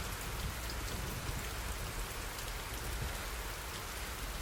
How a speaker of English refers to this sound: I am out here now, and you know what? I love how the rain feels on my skin. I love it.